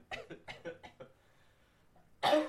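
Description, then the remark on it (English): A single loud cough bursts out near the end, after a moment of quiet. Before it comes a brief run of soft, choppy vocal sounds. “Hey, I have a cough button as well. Let me use it.”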